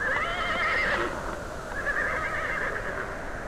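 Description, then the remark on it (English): A horse, one of a team hitched to a light sled during a storm, whinnies loudly in one long, quavering neigh that wavers in pitch, with no voices. “hitched a team of horses to a light sled and started after the children to bring them home.”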